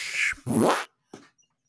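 sound effect, toilet flush sound effect

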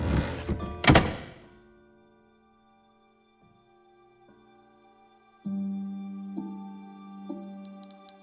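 household object, door being closed

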